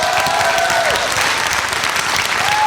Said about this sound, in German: Applaus und die tollen Geräusche. Dankeschön.